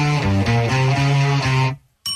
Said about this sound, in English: Here's my guitar riff.